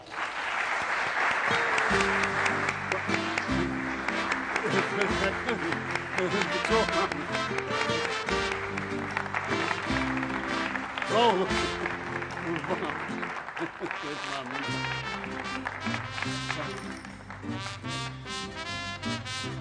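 An audience at a sports club event applauds the club's new financial sponsor steadily for about twenty seconds while loud music with a prominent bass line plays throughout, the clapping blending into the music without a break.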